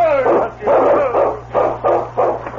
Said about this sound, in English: The big dog barked, then started to the right through the deep snow.